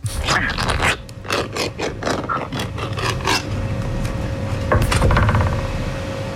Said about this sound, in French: Alors, écoutez, moi, j'aurais pensé à une ouverture de boîte de conserve. Pas facile, mais bon, je penchais là-dessus.